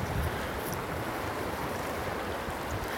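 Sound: fast-flowing river water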